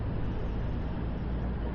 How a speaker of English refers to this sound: Oh, that bus is coming back down.